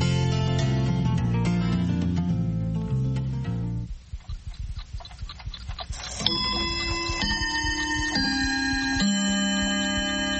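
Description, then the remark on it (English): A clock ticks steadily and clearly amid ringing chime-like tones that swell, fade briefly midway, then return as sustained bell notes. No one speaks. “I agree, they don't have clocks like yours.”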